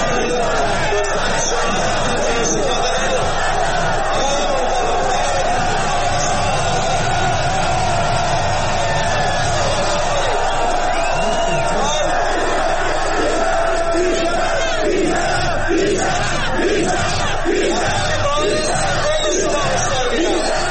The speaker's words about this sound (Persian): در ویدئویی که در شبکه‌های اجتماعی منتشر شده، معترضان شامگاه 8 خرداد علیه مقامات حکومتی شعار سر می‌دهند که یک فرمانده نیروی انتظامی از آنها می‌خواهد تا شعارهای ساختار شکنانه ندهند. معترضان در واکنش فریاد می‌زنند: بی شرف، بی شرف.